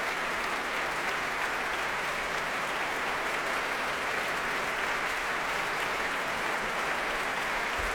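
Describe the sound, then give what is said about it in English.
Steady, dense applause from a large concert audience applauding the orchestra after a symphony, a continuous wash of clapping hands that stays at an even level for the whole stretch, with no voices heard over it. “Here it comes again, applauding the orchestra.”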